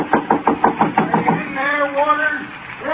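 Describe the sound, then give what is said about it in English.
A rapid, steady run of about ten firm knocks on a door by a neighbour from next door, fairly loud, then a man's voice begins speaking as the knocking stops. “Somebody at the door.”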